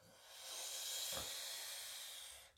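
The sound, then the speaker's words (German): A slow, steady breath drawn in through a rolled tongue, making a soft airy hiss that lasts about two seconds, with no talking. “Atmen durch die eingerollte Zunge, vom Steißbein bis hoch in den Nacken.”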